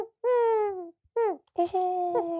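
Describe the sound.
A voice imitates the owls heard at night around a cabin in the forest: three loud, drawn-out tonal hoots, a long gliding one, a brief one, then a longer wavering call.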